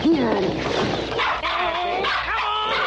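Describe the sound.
A dog barks and yips excitedly, its high, wavering cries running almost continuously for a few seconds over a busy, noisy background with voices mixed in.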